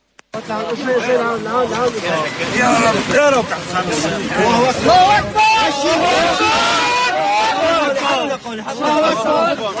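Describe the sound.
A large crowd of relatives and neighbours shouts "Allah is great", applauds and cheers as a child is pulled out alive, many raised voices overlapping in a loud, continuous roar that barely lets up for about ten seconds, with some individual cries rising above the din.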